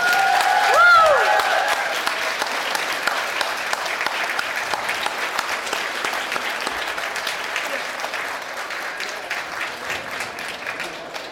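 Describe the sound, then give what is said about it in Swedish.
Sustained audience applause for the announcement of this year's AMI award winner, a dense wash of many hands clapping steadily for several seconds, with a few brief whistles or cheers near the start before settling into even clapping. “Det är nämligen så att årets AMI-pris tilldelas Heidi Karlsson Asplund. En applåd!”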